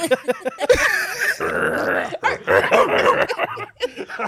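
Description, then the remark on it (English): A man's voice imitates a dog barking, several rough, throaty bursts in an uneven run, fairly loud, with grunting sounds in between. “Because you know I'll send the voice note of me just barking.”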